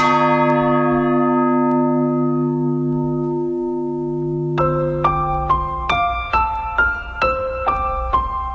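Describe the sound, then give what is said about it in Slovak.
An old bell tolls with a long, deep humming decay, then a rapid sequence of brighter bell strikes rings out in a steady pattern, resonant, with no voices. “Tento zvon mal nádherný zvuk.”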